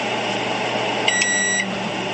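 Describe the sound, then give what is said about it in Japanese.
A microwave oven cooking half a portion of rice in a ceramic mug rice cooker from a 100-yen shop hums steadily, then gives a single clear electronic beep lasting about half a second as the rice finishes, with the running drone continuing underneath. No one speaks. “で、電子レンジでできるんですよ。だから炊き上がりがね、ちょっと音。”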